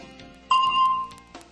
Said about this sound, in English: Xin nghe tiếng chuông. Rồi trả lời. Listen and answer, yes or no. Listen for the bell, then speak.